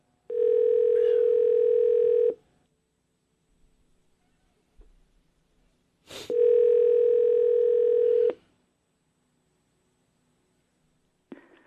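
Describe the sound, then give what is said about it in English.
A telephone line rings twice, each ring a steady, low buzzing tone lasting about two seconds, separated by a silent pause with faint clicks, and a third ring just beginning at the end. A radio host is phoning his mother on air. “One's basically in the bird, one is out, but we called my mom just to make sure.”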